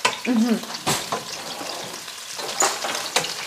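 Food sizzles steadily in a frying pan, a continuous crackling hiss broken by a few sharp clacks of utensils and a brief warbling squeak near the start.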